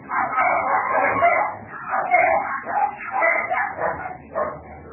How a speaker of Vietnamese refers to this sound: Ngày hai nuôi nhiều chó quá vậy.